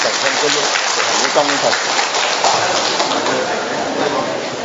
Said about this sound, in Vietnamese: Vâng, và hôm nay bàn tiệc lòng thương xót Chúa được đón tiếp những vị những vị khách quý, thưa anh chị em, xin mời các sơ và các anh chị em dân tộc ở Kon Tum ạ. Vâng, chúng ta cho một tràng pháo tay để chúng ta đón tiếp anh chị em đó.